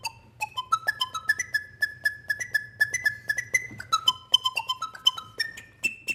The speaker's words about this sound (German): Für alle, die so etwas nachmachen möchten, Toni Bartel hat den Motor im Staubsauger einfach umgedreht, sodass der nicht mehr saugt, sondern pustet. Und die metallene Röhre hat er zu einer Flöte umfunktioniert. Sieht fast aus wie eine Orgelpfeife.